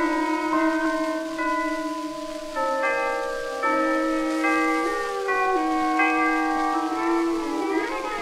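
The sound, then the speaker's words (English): Church chimes ring out a slow, steady melody, each bell tone sustained and overlapping the next, loud and clear with no voices present. “Hold on, boys. The chimes are going to play.”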